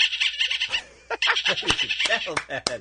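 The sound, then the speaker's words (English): A person imitates a dolphin with high, warbling squeaks and chirps, a steady squeal first and then quick, rising-and-falling squeals broken by a few sharp clicks. “Can I hear some of your dolphin”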